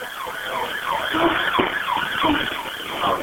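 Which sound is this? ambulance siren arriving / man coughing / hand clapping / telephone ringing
ambulance siren arriving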